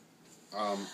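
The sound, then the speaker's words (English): A single abrupt sneeze bursts out after a brief quiet moment, fairly loud, with a voiced, breathy burst that tails off quickly. “Bless you. We'll be doing a role play”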